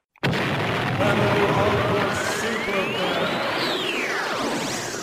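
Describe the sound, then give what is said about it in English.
An explosion sound effect bursts in abruptly and loudly, then holds as a dense, roaring rumble for about five seconds, with whistling tones sweeping upward and then falling away. “For this super fan, let me let the explosion stop.”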